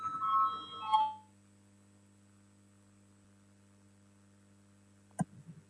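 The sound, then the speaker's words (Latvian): A brief, bright electronic parliament voting bell rings once at the start, calling a vote on a proposal, then fades into a long stretch of steady low hum before a sharp click near the end. “Lūdzu, zvanu, balsosim par 8. Juridiskā biroja priekšlikumu.”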